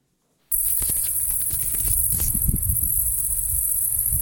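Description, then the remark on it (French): A dense, continuous high-pitched buzzing of crickets and grasshoppers chirping steadily together at night, recorded with ultrasound-capable equipment during bat-monitoring listening sessions of the Vigie-Chiro program, with faint low rumbling underneath and a few brief clicks early on. “Lorsque les scientifiques du programme Vigikiro ont réalisé qu'ils enregistraient au passage des criquets et des grillons, ils ont eu l'idée de lancer le programme SON, S-O-N.”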